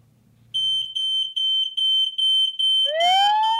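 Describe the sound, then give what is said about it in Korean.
A loud, high-pitched security alarm beeps in rapid, steady pulses, then switches to a rising, wailing warning siren sweep at the end. It is piercing, with no voices. The alarm has gone off falsely again. “사업체 밖의 센서가 수상한 움직임을 감지하는 순간 경고 사이렌이 울림과 동시에 녹화된 영상을 실시간으로 확인하실 수 있습니다.”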